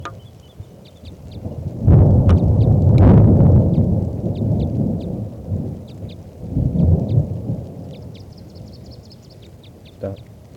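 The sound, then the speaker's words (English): Heavy thunder from a storm rolls in twice, a long deep rumble followed by a softer second peal, over a steady patter of rain as it starts to rain. Faint high chirps sound in the background. “So recording is starting to rain now, and this is still that female.”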